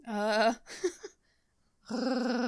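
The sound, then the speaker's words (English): A person makes a throaty, Chewbacca-like growl with their voice, a rough harmonic rumble, then a brief sputtering sound, a short pause, and a second sustained growl. “I like the way it makes my throat feel. Hell yeah. Yes, it's like an elegant Chewbacca.”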